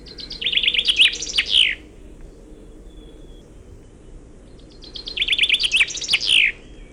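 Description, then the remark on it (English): A small songbird sings two bright, rapid trilling phrases a few seconds apart, each closing with a distinct flourish of the type called a Wallonian or French song, over a steady low background rumble. No one speaks. “That's right, that little bit at the end is totally different, and it's definitely not a suskevit. Finconeers call this a Walserzang, or in English, a Wallonian song, or a French song.”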